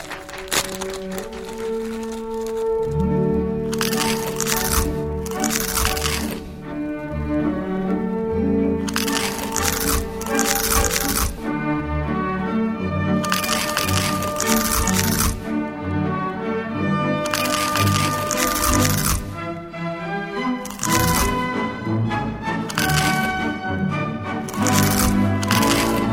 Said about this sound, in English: The salivating sounds of crunch, the lightly sweet, lightly salty, fluffy, and crunchy snack that's turning everyone into kettle corn connoisseurs.